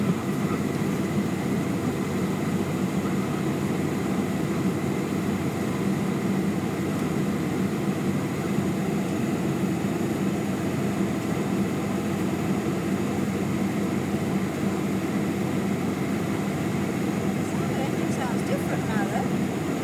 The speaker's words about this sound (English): Got the engines. Yeah. Yeah, that's right. It's a bit different, honey. We ain't got propellers on these. We haven't got propellers on these planes. They're not the jets.